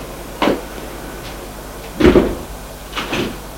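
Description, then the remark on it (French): Elevator doors open with a few heavy mechanical clunks and a brief rumbling slide, spread over a few seconds with no voices, as a woman steps out of the elevator at the second floor. “Elle sort de l'ascenseur.”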